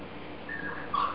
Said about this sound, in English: So the little puppy that you're hearing doesn't get that yet.